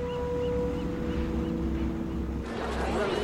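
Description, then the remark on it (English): A boat's engine drones steadily with a low rumble and a sustained horn-like tone as it cruises across the ocean towards a green, rocky coastline, and a rush of water and wind grows louder near the end. No one speaks. “The boat cruises across the silver ocean towards a green and rocky coastline.”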